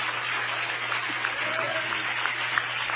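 A crowd claps its hands to give praise to Jesus in a steady, dense wash of applause that holds at an even level for the full three seconds, with a low hum underneath and faint voices mixed in.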